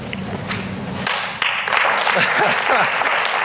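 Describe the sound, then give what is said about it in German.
Sustained standing applause from a large assembly in a state parliament, lasting minutes, for two members, swelling suddenly after a moment into dense, steady clapping, with faint voices mixed in at the start. “Für beide Abgeordnete gab es minutenlang stehenden Applaus und Worte der Wertschätzung aus allen Fraktionen.”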